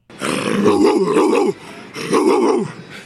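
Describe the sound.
A woman's voice imitates a dog, making two loud, throaty growling bursts with rough barking edges, separated by a short pause, alone.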